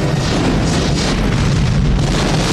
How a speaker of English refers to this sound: He's walking away from an explosion without looking back.